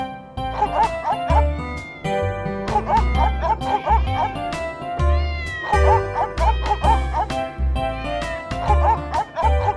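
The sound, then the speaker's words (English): Snowball the dog barks at Cole in short repeated bursts, returning in a steady cycle over a bouncy musical backing with a thumping low beat, fairly loud. “Snowball starts to bark at Cole.”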